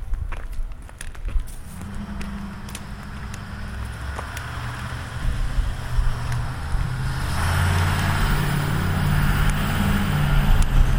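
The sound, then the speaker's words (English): A large lorry rumbles past, its deep engine drone swelling steadily louder over several seconds amid outdoor traffic noise, with a few faint footsteps and clicks early on. “Oh my life! What a huge lorry.”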